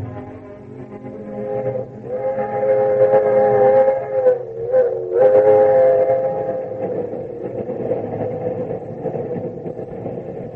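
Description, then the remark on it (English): A train arrives at a station, rumbling steadily while a loud, sustained whistle chord sounds over it, cutting out briefly a few times before settling back into the ongoing rolling noise. No one speaks. “Well, here's my train.”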